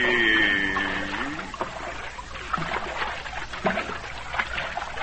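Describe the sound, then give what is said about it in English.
Muffled bubbling and gurgling water heard underwater as someone swims down toward the bottom of the sea, with a brief tonal whoosh at the start followed by steady trickling and popping bubbles, no voices. “Swim down now, little master. Straight to the bottom of the sea.”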